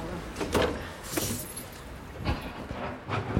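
A garage door being opened, with a few rattling metallic clunks and scraping bursts spread over a few seconds, fairly close and moderately loud against a low background rumble.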